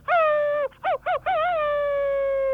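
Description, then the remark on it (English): A person in New Plymouth imitates a wolf howl: a sustained, wavering tone, then two short warbling bursts, and a final long drawn-out howl that fades out. Loud, with no other voices. “Let's hear your wolf howl there.”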